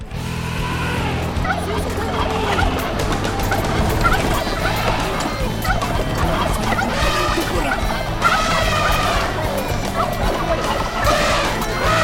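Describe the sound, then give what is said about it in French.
A chaotic, dense battle soundscape of a major conflict between clans riding turkeys and elephants in the Darfur region: turkeys gobbling repeatedly amid crashes and smashing impacts, a constant loud jumble of noise with shouting voices mixed in throughout. “Après quoi, nos compagnons marchèrent pendant 10 jours jusqu'à la région lointaine de Darfour, où un conflit majeur entre des clans opposait les chevaucheurs de dindons et d'éléphants.”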